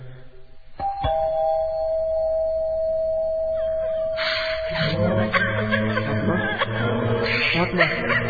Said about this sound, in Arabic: هل ندق الجرس؟